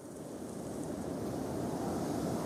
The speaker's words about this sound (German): Der Sturm nimmt zu. Marco kniet am Boden, während der Wind den Sand um ihn aufpeitscht.